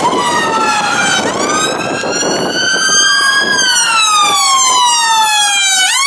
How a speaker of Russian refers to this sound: Я слушаю сирену последние несколько секунд, у меня уже начинается припадок. Ты представляешь вынос мозга какой?